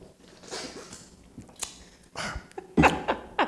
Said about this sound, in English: I can remember drinking, in fact, there's one here. Let me just take a sip.